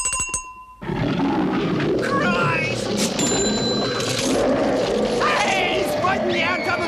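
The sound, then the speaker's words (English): A loud Bengal tiger roar bursts in after a brief electronic chime, rumbling continuously over busy shop clatter, ringing tones and jingling coins in a chemist's shop where eye drops are being bought, with voices mixed into the din. “And finally, oh God, finally some eye drops being bought in the chemist just down the street by a Bengal tiger!”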